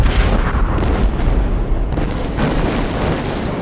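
A sustained, roaring explosion sound effect of a star going supernova, loud and rumbling with heavy low-end energy and crackling bursts throughout, swelling again partway through before continuing to thunder without any voices.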